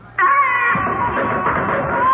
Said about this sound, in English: But will it remain that way as Uncle Terence's picture rocks on the wall, and once again we hear the eldritch scream of the banshee wail?